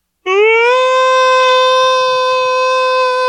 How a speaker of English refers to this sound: And when I said that, the siren went off.